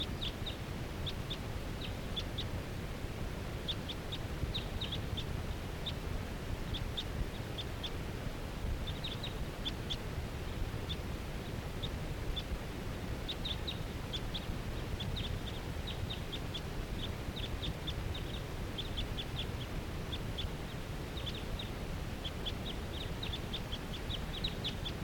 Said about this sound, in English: Sorry, this is one of the wild birds calling from that tall fir tree by itself.